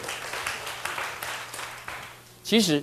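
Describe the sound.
A group claps together to thank a man, a steady, dense patter of many hands for about two seconds, then a voice briefly speaks as the clapping dies down.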